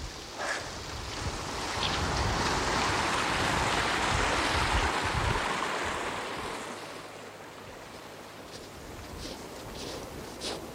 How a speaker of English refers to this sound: Oh, great river of snowmelt crossing my path here.